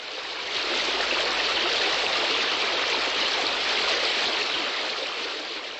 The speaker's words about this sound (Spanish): En la ciudad había 3 azudes que golpeaba el agua del río y se escuchaba maravillosamente por la noche. Me relajaba y me hacía soñar con las hadas y el ondino.